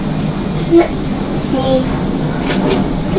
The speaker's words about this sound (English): Can you hear the aeroplane? Yes!